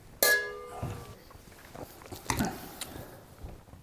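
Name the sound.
wine poured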